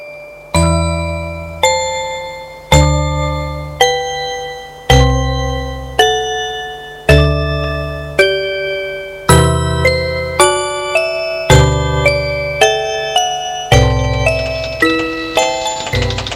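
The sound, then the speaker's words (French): An electric bell in a house rings out loud as a woman presses the bell button, a long run of clear, ringing chime tones, each struck note decaying before the next, quickening toward the end with no voices. “Elle appuie sur la sonnette.”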